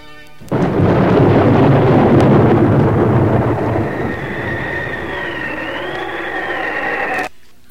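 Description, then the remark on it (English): Radio sound effects introducing the Oracle: a sudden loud thunderclap breaks into a long rolling rumble with the roar of a fresh to moderate northwest wind, then celestial gongs are struck, shimmering tones ringing out before everything cuts off abruptly. No one speaks. “the routine will be a clap of thunder, followed by a fresh to moderate northwest wind, and the striking of celestial gongs, after which the Oracle rises from below.”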